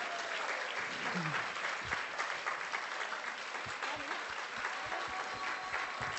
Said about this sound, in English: A prosila bych, aby všichni, kteří jsou z Holandska, povstali. And I would všichni. I would like all of you who are in Holland to stand up, please. Now. A zbytek jim zatleská. And the rest applaud.